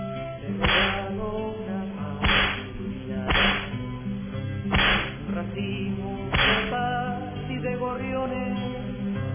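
Five sharp whip cracks snap out one by one at slightly uneven intervals, each a loud, bright lash standing out over a steady, droning musical background.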